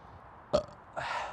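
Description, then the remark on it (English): A brief, guttural burp with a sharp onset, followed by a rougher, breathy continuation trailing off, moderately loud with no talking. “Oh yeah, or burps are probably really loud, aren't they?”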